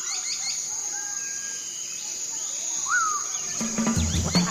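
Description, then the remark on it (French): Birds calling with scattered chirps and short whistled notes over a steady, high-pitched drone, growing busier and louder in the final second. “Ouais, c'est encore des oiseaux ça?”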